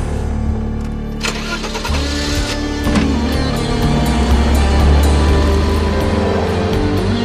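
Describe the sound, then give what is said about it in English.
A car engine cranks over and catches, then runs and revs with a steady, heavy rumble that grows slightly louder as the car drives away, with no voices. “picking up a rock and hucking it at the moving car, smashing a large hole through the back windshield.”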